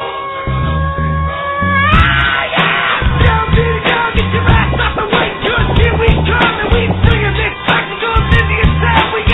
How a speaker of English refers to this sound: Oh, let's shut the door there for a second. Damn, that's a loud crowd.